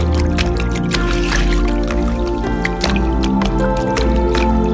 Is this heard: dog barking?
no